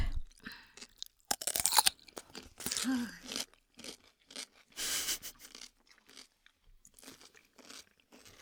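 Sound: people chewing crunchy food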